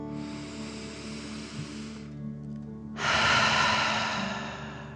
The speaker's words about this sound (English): And let's take 3 more deep dragon breaths. Remember to breathe in through your nose, filling up your belly, and then out pretending you are breathing fire. Deep breath in and out.